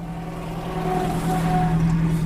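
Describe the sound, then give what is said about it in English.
On a hot, sunny, dry day at an outdoor car display event, a couple of classic cars rumble past, their engines giving a steady low drone with a humming whine that swells slightly as they go by. No one speaks. “There's a classic, couple of classic cars going past me now.”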